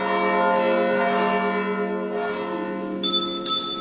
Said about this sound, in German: In den Kirchentürmen sind 4 Glocken angebracht, die von Heviser Familien gestiftet wurden.